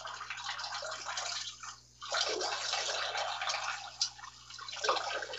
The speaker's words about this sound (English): All right, I'm going to pee in your toilet.